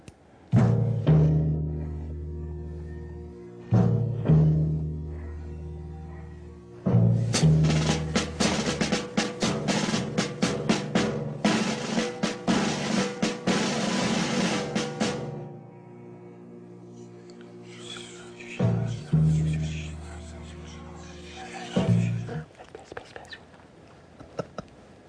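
Breathy whispering drifts over a low, droning musical backdrop, swelling into a dense hiss mid-way before easing back; no clear wolf howl stands out.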